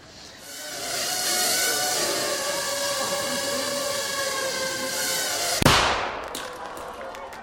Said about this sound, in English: Did you see that? That little bang is enough to penetrate the skull and destroy the contents.